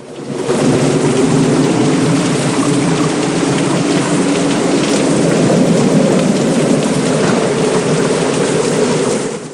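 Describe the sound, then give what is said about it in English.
Heavy driving rain pours down in a dense, unbroken roar, loud throughout with no pauses or voices, a thick wash of hissing water from start to finish. “The two men stand opposite each other in the driving rain.”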